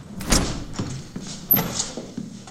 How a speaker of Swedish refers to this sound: Han spelar biljard när dörren till fritidsgården öppnas.